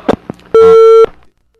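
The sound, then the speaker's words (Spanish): A single loud, steady telephone tone lasting about half a second, like a busy or disconnect signal on a dropped call, preceded by brief clicks and line noise. “Bueno, corto parece.”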